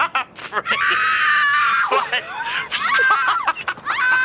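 High-pitched screaming rises and falls in sustained bursts, loud, with short sharp squeals and breaths between cries across the whole stretch.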